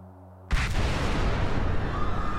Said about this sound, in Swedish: Explosioner och höga smällar. Inne på arenan Stade France möter Frankrike Tyskland i en vänskapsmatch i herrfotboll. Men just nu förstår varken publiken eller fotbollsspelarna vad det är som för sådant oväsen.